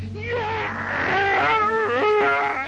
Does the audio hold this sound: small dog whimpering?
yes